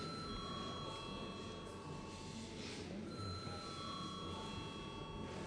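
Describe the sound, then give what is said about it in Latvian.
A parliament chamber bell is rung before a vote on urgency for amendments to the General Education Law, ringing continuously for several seconds, a steady, high, shrill electric tone that holds without pause over a faint background murmur of voices. “Lūdzu, zvanu.”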